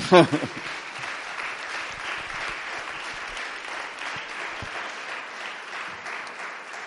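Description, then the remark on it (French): A crowd breaks into steady applause, dense clapping at a fairly even level, preceded by a brief voice at the very start. “Donc je pense qu'on peut applaudir”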